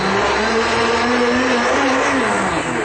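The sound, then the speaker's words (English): A blender runs at full speed, pulverizing half a pound of spinach with 8 ounces of liquid, a loud, steady motorized whir with a churning, grinding texture, continuous throughout with no voices. “Just blend that up.”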